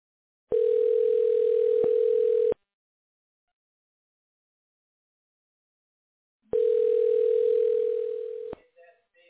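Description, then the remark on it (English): A telephone dial tone hums steadily for about two seconds before a call connects, falls silent for several seconds, then sounds again before cutting off, followed by a faint voice beginning to speak over the line. “I'm on the phone.”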